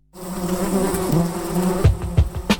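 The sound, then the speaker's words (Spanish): A fly buzzes steadily in a radio station jingle, its drone wavering in pitch, followed near the end by a few sharp thumps or knocks. No one speaks. “Revoloteando en el aire. La Mosca Radio.”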